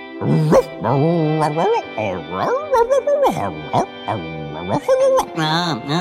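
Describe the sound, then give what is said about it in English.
A human voice imitates a dog, with a rapid string of whiny, high-pitched yips and short barks, loud, running continuously for several seconds. “Then why don't you just go ahead and bark to us in Yelpinese, and I'll translate.”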